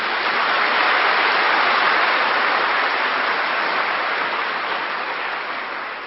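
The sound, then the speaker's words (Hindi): A crowd at an evening gathering claps loudly together in a dense, steady wash of applause that holds for several seconds, then eases off slightly at the end, answering a call for a loud round of applause. No one speaks over it. “इसी खुशी में एक जोरदार ताली बजाओ।”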